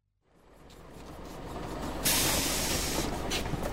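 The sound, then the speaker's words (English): A bus engine rumbles low and steady, then a sudden loud burst of air brake hiss breaks out about halfway through and keeps sputtering as the vehicle comes to a stop. No one speaks. “Does this bus go to the museum?”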